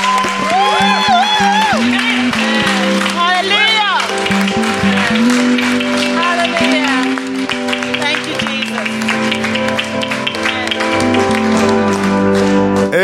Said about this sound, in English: Let's put our hands together for Jesus. Hallelujah. Amen. I think we can do better than that. We can clap.